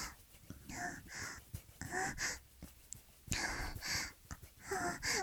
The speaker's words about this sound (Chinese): 哥哥，你也在喘气，你的呼吸都打到我的胸口了。